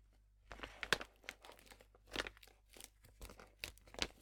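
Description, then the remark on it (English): Crinkling and tearing of a sheet mask's foil packet with a zip lock being opened, with irregular bursts of crackly rustling and a few sharper rips over a few seconds, no talking. “And which is really cool, it has like a zip lock thing, which I welcome, because most of the time sheet masks are so full of serum that you can easily use them like 2 or 3 or even 4 times.”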